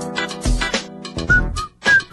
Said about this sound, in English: I don't feel like whistling works with this song. I whistle to all songs.